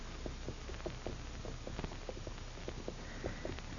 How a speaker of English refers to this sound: Over there by the corral, you see? They're walking the horses into the yard. Slow and quiet.